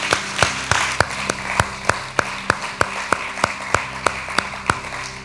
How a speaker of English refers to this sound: Let's give God a big hand clap.